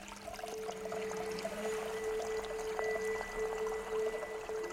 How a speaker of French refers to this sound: Qu'est-ce qu'il adviendra, demande Niels, quand des déchets toxiques seront stockés pile à l'endroit où coule ce ruisseau, juste en amont du village et de sa retenue d'eau.